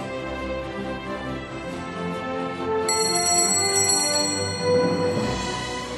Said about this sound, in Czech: Zazvonil zvonec a pohádky je konec.